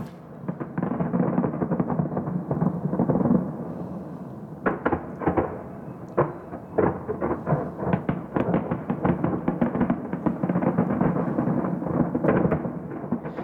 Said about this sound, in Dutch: Het is vuurwerk, ontdekte Sissy Caffrey.